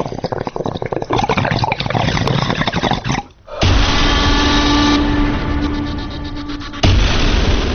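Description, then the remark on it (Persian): Loud gurgling of hookah water bubbling in a rapid, steady stream, briefly dropping off partway through before resuming more strongly, with no voices. “قلیان ها برای چه کسی قلقل میکنند؟”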